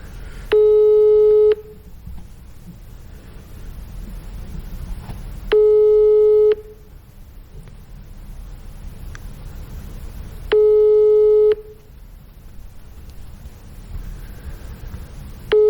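A telephone ringback tone sounds three times as someone is phoned, each steady electronic beep lasting about a second with long pauses between, over a low background hiss. No one speaks.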